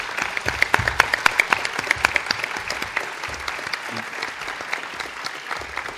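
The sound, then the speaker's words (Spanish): An audience applauds the speakers steadily, a dense patter of many hands clapping with a few sharper individual claps standing out, holding strong before easing slightly toward the end. “Muy bien, pues han cumplido perfectamente nuestros ponentes y les vamos a dar un abrazo a través del aplauso.”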